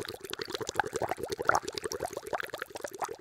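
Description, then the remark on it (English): Water boiling in a pot, a steady, dense stream of bubbling and popping that stays at an even level throughout, with no voices. “I put on my slippers and I hear boiling.”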